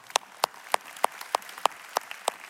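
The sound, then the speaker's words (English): An audience claps together in a steady beat, eight sharp, crisp claps evenly spaced over a soft background hush, with no one talking. “Clap it up for that.”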